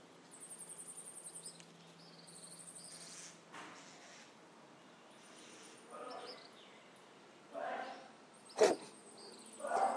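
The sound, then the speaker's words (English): A single sharp sneeze from a person bursts out in the background, set against steady outdoor ambience of chirping birds and high insect trilling on a warm morning around sunrise, about 7:15 a.m., in Minneapolis Valley. “That's somebody sneezing, if you can hear that in the background.”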